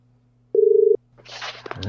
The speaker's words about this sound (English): So I'm just punch the number in now. Here we go. It's exciting. And there we go. All right. Oh, it's ringing. That's good.